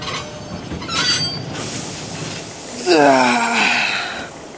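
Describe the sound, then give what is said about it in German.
A train from Vienna rolls slowly into Munich railway station, a large hall, its brakes letting out a long, loud metallic squeal near the end while a broad rumble and hiss fill the background. “jetzt sind wir da. Bahnhof München. So eine große Halle.”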